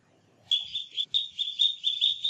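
A duckling chirps in a rapid run of high, thin peeps, repeating steadily after a brief quiet start, with faint low background noise underneath.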